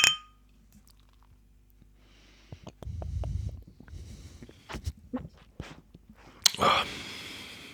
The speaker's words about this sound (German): Das heißt, ich trinke das jetzt. Prost. Ich trinke es auch. Prost.